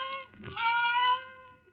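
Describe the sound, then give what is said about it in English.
A cat cries in a drawn-out, wavering meow that rises and holds before fading. It is heard alone at moderate volume, with no voices. “Then the silence was broken by the faint crying of one cat.”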